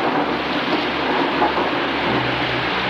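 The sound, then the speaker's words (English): A long, low, drawn-out rumble of thunder rolls beneath a dense, steady hiss of heavy rain that increases in ferocity, continuous and loud throughout with no voices. “Long, rumbling, miles. Long thunder, and now the rain increases in ferocity.”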